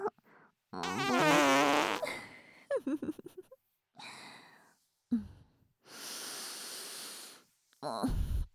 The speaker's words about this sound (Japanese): 臭い。 おなら臭 い。また出ちゃう。臭いへ。ブリブリ。